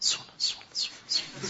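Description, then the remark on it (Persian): A voice imitates chicks chirping, mocking a hurried recitation of prayer-bead praises after prayer, with a quick run of about five sharp, high-pitched, breathy chirps in a steady rhythm. The sound is moderately loud. “جیک جیک میکنن، دیدی مثلا قشنگ صدا جوجه میاد، انقدر قشنگ نماز که تموم میشه انگار مثلا در مقداری وا کردی، جیک جیک جیک جیک صدا جوجه میره سراغ بعدش.”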